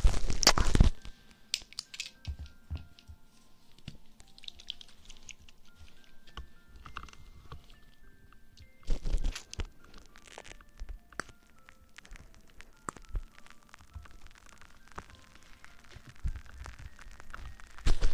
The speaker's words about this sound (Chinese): 照一下泡沫在你耳朵里一颗颗一颗颗的爆炸，这种感觉你享受过吗？